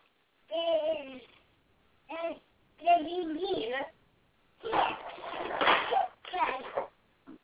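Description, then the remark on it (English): Children yell and shriek in a run of loud, high-pitched bursts, some warbling and sing-song, others harsh and screechy, separated by short pauses. “I'm just listening to your kids flip out over there.”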